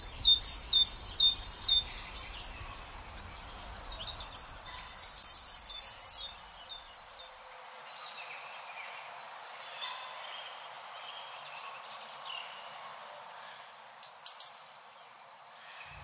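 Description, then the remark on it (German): Songs of a great tit and a blue tit: a quick series of repeated high notes opens, then two bright, descending trilled phrases ring out clearly, several seconds apart, with no talking. “Und Blaumeisen antwortet, ich bin nicht zimperlich mit dir.”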